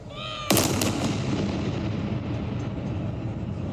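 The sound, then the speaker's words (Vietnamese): A single booming artillery salute round fires sharply and loudly at the Tower of London for the coronation of King Charles, its blast rolling and echoing away over a sustained low rumble, with no voices. “Loạt súng chào được bắn tại tháp London và khắp thủ đô, đất nước, ở Gibraltar, Bermuda và trên các con tàu London trên biển.”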